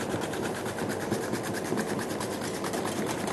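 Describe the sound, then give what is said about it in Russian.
Zucchini being cut into fine, thin julienne strips on a Börner grater made by German engineers, a fast, steady run of rasping, scraping strokes repeating evenly at a constant loudness, with no talking. “И вот здесь я вновь хочу обратиться к инструменту замечательных немецких инженеров Терка Бернер. Это не реклама, я не агент, просто мне нравится, как она будет ее резать, кабачок.”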